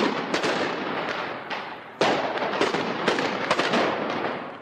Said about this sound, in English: Soldiers fired tear gas and rubber bullets to disperse the crowds, and snipers used live ammunition to prevent a breach of the border fence.